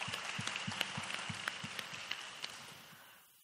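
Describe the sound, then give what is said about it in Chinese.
An audience applauds together to thank God, a dense wash of many hands clapping steadily at moderate volume, with no voices over it, before the applause thins and fades out at the end. “Please applaud once more to thank our mighty gracious God.”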